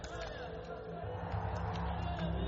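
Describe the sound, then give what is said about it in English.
A large angry crowd roars continuously, a dense wall of shouting voices that stays loud throughout and swells slightly toward the end, with no single voice standing out. “I heard his final words even amongst the roar of the crowd.”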